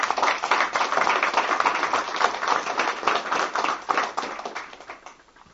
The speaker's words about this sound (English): Appreciate it. Appreciate your time. Get a round of applause for the community.